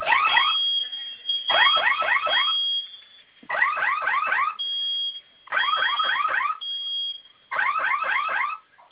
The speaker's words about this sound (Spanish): ¿Qué le aparece en el teclado? Fuego. Fuego alarma.